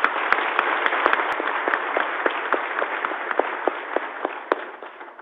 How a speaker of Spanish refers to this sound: Pero bienvenida a ese daño del sueño, del sueño, y démosle un aplauso a los soldados y policías de la patria.